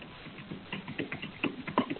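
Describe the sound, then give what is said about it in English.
Someone types loudly on a computer keyboard during a council meeting call, a quick, irregular run of clacking keystrokes with short pauses, heard through a thin, muffled line with no one talking. “I hear somebody typing loudly.”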